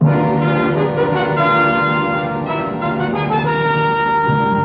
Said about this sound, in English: Listen when you hear the three chimes for Laughs and More Laughs with Bob Hope on October 3rd and Groucho Marx on October 4th.